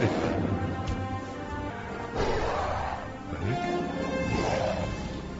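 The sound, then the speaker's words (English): A loud, dense battle scene from the 2005 King Kong film: the giant ape's roars and crashing impacts mixed with droning airplanes and swelling music, continuous and chaotic for several seconds with no talking. “Oh, the planes give it away. The planes give they it should away. Should have cut the helicopters, yeah. That's King Kong, and play it again, because I want to see which one that is.”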